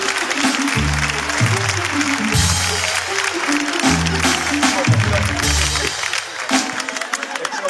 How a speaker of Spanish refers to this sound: No, ya, bájalo, ya. Un aplauso para el chico, ya, un aplauso, bájalo, ya.